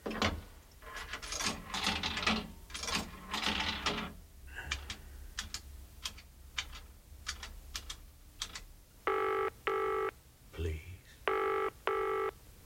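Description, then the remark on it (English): A telephone rings in two double bursts near the end, loud, each ring a bright buzzing tone. Earlier, rapid keyboard-like clicking and muffled talk fill the background. “we can't make it to the phone right now. Wait for the beep.”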